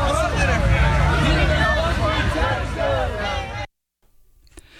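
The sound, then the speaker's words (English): Loud, dense crowd noise of many overlapping voices chattering and calling out at once at an evening union picket line outside a Burgerville restaurant by the Convention Center, as a union member walks the line, steady for several seconds before cutting off abruptly into near silence. “Those were some of the sounds heard from a picket last night at the Convention Center Burgerville as a union member walked the picket line.”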